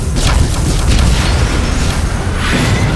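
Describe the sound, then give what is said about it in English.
Loud, continuous rumbling explosions with deep booming low end and crackling bursts, sustained for several seconds like a barrage going off all around a platform as a ship is attacked, with no voices. “I tried to shut out the sounds of explosions all around the platform.”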